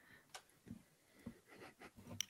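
Quiet, irregular clicks and taps, like keys on a keyboard and a mouse button, about half a dozen sharp little strikes spread over a couple of seconds with no voices.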